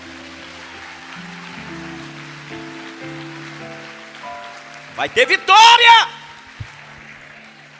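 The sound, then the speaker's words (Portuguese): A crowd applauds in a steady, dense patter while sustained keyboard chords play underneath; partway through, a man's voice calls out loudly over the clapping. “Pode aplaudir.”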